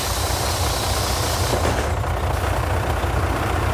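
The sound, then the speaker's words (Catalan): A coach bus, like the 300 the ANC has filled for the 11 September rally in Barcelona: its engine rumbles steadily with a deep, low drone, broken about halfway through by a brief sharp hiss of air brakes before the idling continues. No one speaks. “I l'ANC ja ha omplert 300 autocars com aquest per participar en l'acte reivindicatiu de la V baixa l'11 de setembre a Barcelona.”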